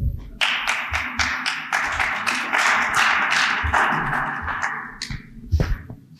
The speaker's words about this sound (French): Merci, merci pour ces applaudissements convaincants.